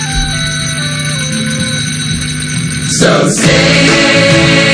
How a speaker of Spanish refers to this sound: Que suenen las campanas.